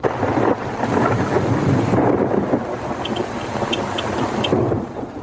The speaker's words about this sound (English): Five hours of rain has turned a dusty farm into a quagmire. But despite the deluge, most festival goers appear undaunted by this torrent of water.